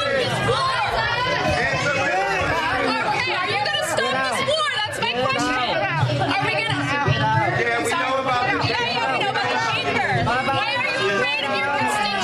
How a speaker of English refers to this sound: a town hall that spiraled into a shouting match with attendees yelling both at the congresswoman and at each other